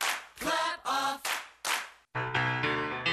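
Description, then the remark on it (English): A rhythmic run of sharp hand claps, about five loud strikes in quick succession, each with a short ringing tail, operating the Clapper, a device plugged into a household outlet that switches a lamp, TV or stereo on and off. This is followed by a sustained tonal, musical-sounding passage with brisk accents. No one speaks. “Let your appliances turn on and off just by clapping.”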